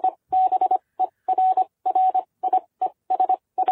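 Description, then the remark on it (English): A steady, fairly loud tone keyed on and off in quick groups of short and longer beeps, a continuous run of Morse code with brief gaps between letters and no voices. “Well, Morse code.”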